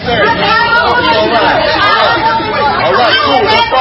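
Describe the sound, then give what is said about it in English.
Dense, steady chatter from a huge crowd of shoppers in a packed Trader Joe's grocery store on the Upper West Side of Manhattan, many overlapping voices blending into a loud, continuous babble with no single voice standing out. “At a Trader Joe's on the Upper West Side of Manhattan yesterday, the crowds were huge.”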